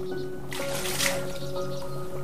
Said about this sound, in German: Und dann kommen sogar einige der Pferde mit ins Wasser. Der kleine gefleckte Frechdachs fängt an, seinen rechten Vorderhuf aufs Wasser zu schlagen, dass es nur so spritzt.